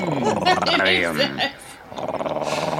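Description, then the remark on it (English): A lion growls inside a lion den, a loud, throaty rumble that rises and falls for a couple of seconds, then drops to a quieter, breathy grumbling. “And here we are inside the lion den. So, and here comes Leo. Lion.”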